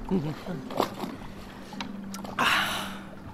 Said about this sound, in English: I rowed us out to the middle of the lake.